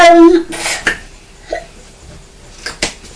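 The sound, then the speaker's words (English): A young boy hiccups several times, each one a short, sharp catch of breath spaced irregularly, following a brief voiced whine at the start. “Poor little boy with hiccups.”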